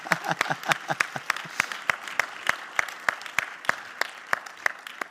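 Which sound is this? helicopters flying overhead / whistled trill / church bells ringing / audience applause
audience applause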